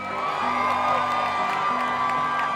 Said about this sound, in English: They deserve a louder cheer than that. Come on, man, it's a lot of bullshit. Oh, that warms the cockles.